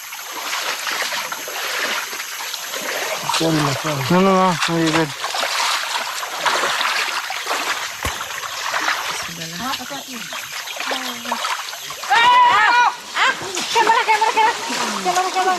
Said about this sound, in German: Da fällt der Fixer mit dem Equipment-Rucksack ins Wasser. Oh, und der Drohne.